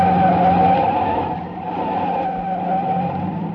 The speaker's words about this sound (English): There was only one way out. I whipped my wheel to the right and skidded onto a bridge.